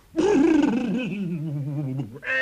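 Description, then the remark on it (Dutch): A person imitates a horse's whinny, a single loud, wavering vocal neigh that starts high with a quick warble and slides lower over about two seconds. “Wat voor geluid maakt er zo'n paard nou ook weer?”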